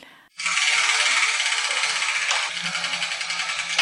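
spinning letter wheel rattling

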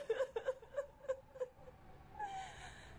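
person crying and wailing

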